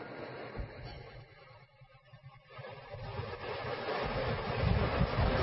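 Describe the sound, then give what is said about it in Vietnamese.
Heavy rain drums on a tin roof in a dense, continuous roar, swelling louder and harsher toward the end, with no voices. “Bởi vì cái nhà máy tôn này nó rột xuống cái tiếng nó mầm mầm mầm mầm.”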